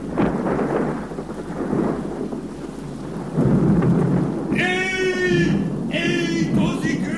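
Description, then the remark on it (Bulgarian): Rumbling storm noise with rain swells into a loud crash of thunder about halfway through, and the roar keeps rolling while a high voice cries out twice over it. “Видях, че при първия силен гръм замъкът на Матис се разцепи до средата.”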